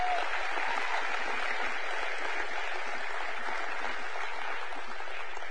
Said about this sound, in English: Let's clap our hands. Now, you won't hear this in a lot of churches, but let's clap our hands for tithes and offerings, please.